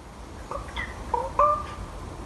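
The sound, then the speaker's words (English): A crow gives a short run of odd, soft, tonal goo-goo calls, about four quick notes in a row, over a faint background hiss, with no talking. “And Niall Hatch tells us that that very curious sound is in fact a crow.”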